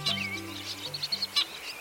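A bird sings a quick series of high, bright chirps and trills, with a couple of sharper notes standing out, over a soft, steady low hum of sustained tones.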